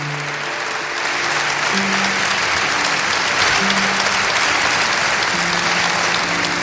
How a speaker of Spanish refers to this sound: Aplausos para el rey don Felipe, que ha intervenido en este acto de homenaje, en este funeral de Estado.